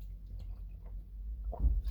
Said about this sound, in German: Ich nehme jetzt auch nochmal extra für Sie hier. Schon wunderschön einen Schluck hier aus dem Dosenbier extra für Sie, liebe Freundinnen und Freunde des gepflegten Dosenkonsums. Prost!